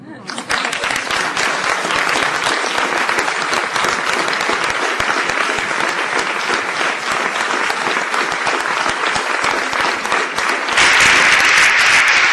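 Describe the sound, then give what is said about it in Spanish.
A large audience claps steadily and loudly for about twelve seconds, applauding Tomás Gómez's answers, a dense continuous wash of applause that swells even louder near the end, with no voices heard over it. “Más aplausos a las respuestas de Tomás Gómez.”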